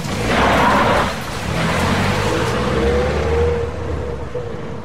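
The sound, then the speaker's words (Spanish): A car engine rumbles at night in the rain, rising briefly as it revs after dropping a passenger off at home, then gradually pulls away and fades, with a broad hiss of rain and road noise throughout. “Llegamos a mi casa. Bajo el coche. Me despido.”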